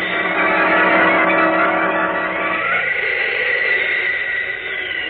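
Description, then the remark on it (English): A loud, sustained whooshing rush as Superman streaks upward and away through the air like a bird, a steady roar whose tone shifts and thins slightly partway through, with no voices. “Then, like a mighty bird, the Man of Steel streaks away,”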